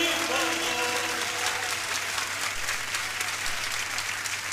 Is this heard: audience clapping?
yes